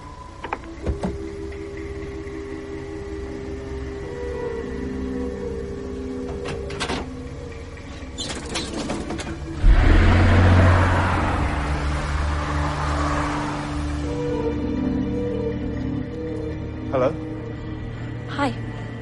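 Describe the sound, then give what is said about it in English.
A car engine hums steadily from inside the vehicle, with a louder whooshing surge partway through, and some quiet voices underneath. “Get into the car, Dr.”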